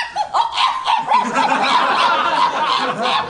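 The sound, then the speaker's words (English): A human voice imitates a small dog being eaten, yelping in high-pitched terror, a loud stream of frantic high-pitched yips and whines running almost without pause for a few seconds. “do an impression of a dog getting eaten. A dog being eaten.”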